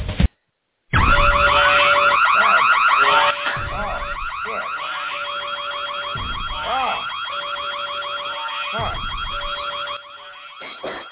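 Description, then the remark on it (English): A wrestling entrance theme built around a blaring alarm: a loud, steady electronic tone with repeating whooping sweeps, kicking in after a brief blip and a second of silence and running throughout. “Imagine that for a fucking theme song.”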